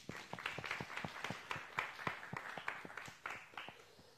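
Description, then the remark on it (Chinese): A crowd of people clapping their hands together to give glory to God, a dense patter of many overlapping claps sustained throughout at a moderate, steady level with no voices standing out. “愿意的拍手把荣耀归给神。”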